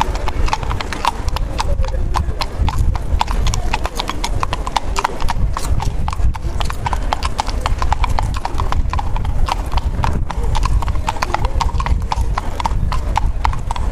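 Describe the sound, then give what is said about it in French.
Steady clip-clop of hooves from two police horses walking on pavement along a main boulevard behind a tram, many crisp rhythmic strikes overlapping in a loose, repeating pattern, clear against a low street rumble. “Sur le boulevard principal, 2 policiers à cheval suivaient le tram. Les 8 pas se synchronisaient à la perfection, créant une piste polyrythmique impeccable.”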